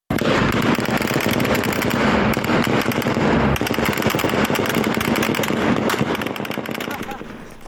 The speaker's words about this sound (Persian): همزمان ویدیوهای منتشر شده از پیرانشهر نشان می‌دهد که نیروهای نظامی در پی مراسم تشییع پیکر کاروان قادر شکری از کشته شدگان این شهر اقدام به تیراندازی به سوی معترضان کردند.